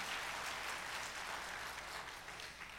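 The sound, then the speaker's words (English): A crowd claps steadily, a dense wash of many hands applauding together, sustained and fairly loud throughout with a slight tapering toward the end. “Someone wants to clap, so I want to encourage that.”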